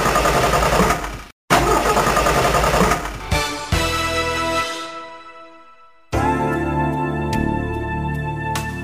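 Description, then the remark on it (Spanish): A car engine runs roughly, cuts out for a moment and coughs back, then sputters and winds down to a stall; a steady tonal sound starts after a short silence. “Caballero, ¿se le para de repente? ¿Se le derrama el líquido? Esto es señal de que su coche necesita bujías Prestolita.”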